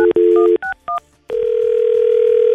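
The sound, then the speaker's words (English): Telephone dialing on the Camel Country 107.9 radio morning show: a short tone, then a few quick two-note keypad beeps, followed by a long, steady, unbroken phone tone as the call goes through. No one speaks. “Let's give him a call.”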